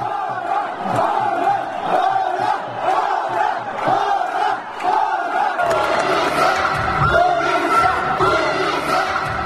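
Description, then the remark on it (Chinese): A large outdoor crowd of spectators shouts and cheers continuously despite the rain, supporting their teams at a football match between the Boudha Tashi White Flag team from Nepal and the Phuntsokling team from Odisha, India; a dense roar of many voices that swells louder and fuller partway through, with no single speaker standing out. “来自各地观众不顾下雨天气，呐喊支持各自喜爱的球队，观看整场比赛。”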